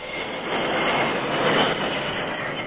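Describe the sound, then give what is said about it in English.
A steam train braking to a stop as the brakes are applied, a loud, steady, dense rushing roar that fills the whole clip without easing off, with no voices. “Chief Black Hawk was beaming with a smile of a conqueror, as with the help of the engineer, he applied the brakes and found the train coming to a stop.”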